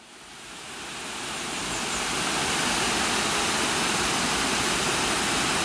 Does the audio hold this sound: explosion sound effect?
no